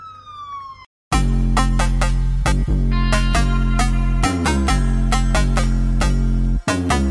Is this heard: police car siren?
yes